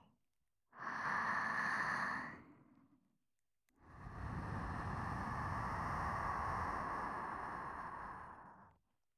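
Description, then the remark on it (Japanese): Two long, breathy exhalations blown straight into the ear, the first lasting about two seconds and the second a sustained five-second rush of warm, airy breath with a low rumble. “今のピンカのお耳にあったかい吐息をかけて、気持ちよさマックスまでぶっ飛ばしますね。”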